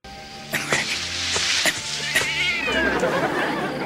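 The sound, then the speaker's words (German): A cat meows and caterwauls in a drawn-out, wavering cry, fairly loud, with a few sharp clicks scattered through it and no talking. “Eine Einbrecherkatze.”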